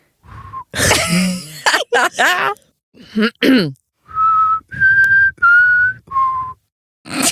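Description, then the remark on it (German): Someone whistles a short, simple tune in several separate held notes, fairly loud, after some breathy throat-clearing and huffing noises at the start. “Kannst du pfeifen?”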